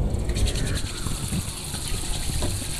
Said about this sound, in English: Okay, so you try to get your greasy chicken fingers clean without soap, only water, and it does not seem to help too much. The water either bubbles or rolls off the oil, and your fingers stay greasy.